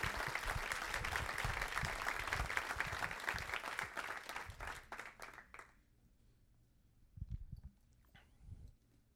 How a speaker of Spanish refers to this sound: Oh, dale un fuerte aplauso a Jesús. Más fuerte. Más fuerte.